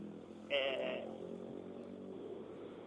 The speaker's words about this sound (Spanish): Se escucha bien, a vos te molesta el ruido, a nosotros okay. No. Es que escuchamos los autos, los motores, pero tu voz está.